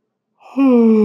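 A person yawns: a breathy intake of air that swells into a loud, drawn-out voiced groan, cut off while still sounding. No other sounds.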